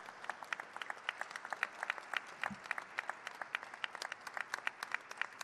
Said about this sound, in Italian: Davvero vi chiedo un applauso per queste persone.